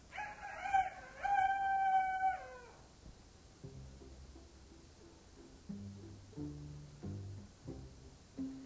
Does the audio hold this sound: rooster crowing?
yes